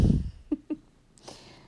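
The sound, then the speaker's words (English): Faint rustling and crinkling of plastic as a cat plays with it, preceded by a soft thump and a couple of light taps. No one speaks. “So you might be able to hear one playing with plastic, as she does.”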